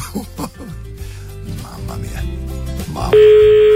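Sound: telephone ringing tone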